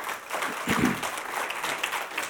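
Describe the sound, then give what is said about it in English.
An audience breaks into steady applause, a dense crackle of many hands clapping at once that swells slightly midway and holds at a moderate level throughout. “If you could give him another round of applause, that'd be nice.”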